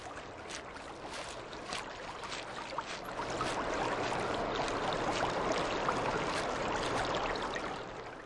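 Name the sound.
river water flowing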